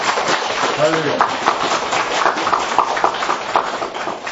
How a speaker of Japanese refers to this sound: では皆さん拍手で。